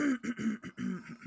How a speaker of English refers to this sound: that seems to be my go-to starting the podcast noise. It's just me clearing my throat over and over again.